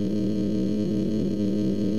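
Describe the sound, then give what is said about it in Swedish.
Beethoven's Fifth Symphony sped up so fast it collapses into one continuous droning tone, steady and fairly loud, with a dense buzzing texture and no voices. “Och så här låter till exempel Beethovens femte symfoni.”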